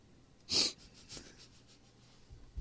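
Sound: sniffing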